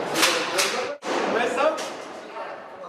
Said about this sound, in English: The guard makes us turn the camera off while he shoots the lock off the cell door.